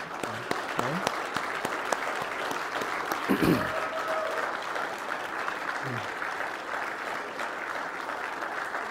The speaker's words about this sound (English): We're just going to give you a hearty round of applause this morning for being a mom.